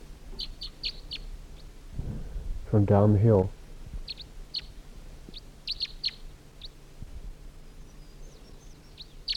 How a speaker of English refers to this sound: It's 6:12 now, and it sounds like there's another wild bird here. Another wild crossbill. Sounds like another type 3 bird.